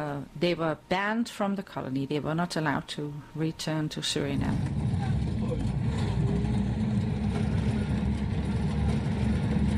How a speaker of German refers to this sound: Mit einem rostigen alten Bus fahren wir auf einer schwierigen Piste durch den Regenwald. 4 Stunden lang. Es geht Richtung Brownsberg und dem Brokopondo-Stausee, der hier inmitten des Dschungels entstanden ist